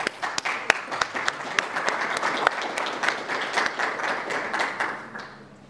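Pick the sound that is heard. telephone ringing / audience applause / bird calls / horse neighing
audience applause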